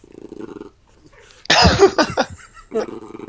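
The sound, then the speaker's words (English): A puppy growls low and steadily, then breaks into a loud, raspy snarling burst before settling back into a rumbling growl. “Puppy growling intensifies.”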